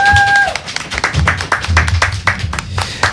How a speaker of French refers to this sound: qu'on peut applaudir, les amis.